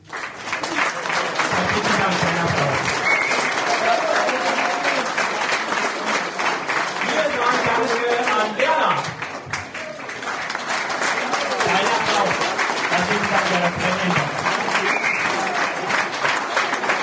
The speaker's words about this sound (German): Dein Applaus.